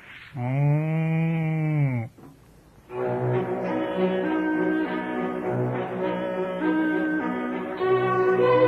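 A single loud, drawn-out moo from a cow called Burenka rises and falls, then after a short pause a longer, steady tonal sound with rich overtones carries on to the end. No one speaks.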